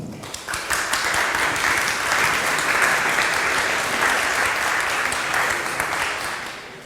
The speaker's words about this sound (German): Ein Applaus bitte.